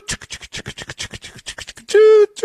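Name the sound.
train sound effect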